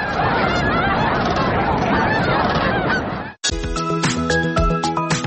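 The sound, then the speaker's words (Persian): A large flock of cranes calls loudly in a dense, overlapping chorus of honking, trumpeting cries, then the sound cuts off abruptly and gives way to a different, tonal jingling sound. “هر سال آنها جشنواره تورنه‌ها را برای دوستداران پرنده‌ها و عکاسان تشکیل می‌کنند.”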